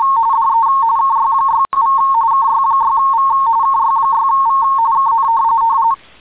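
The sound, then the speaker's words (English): MFSK-16 and RTTY digital radio signals: loud, steady warbling tones around one pitch, keyed in rapid chirping patterns, with a brief break partway through and no voices. “MFSK-16. RTTY.”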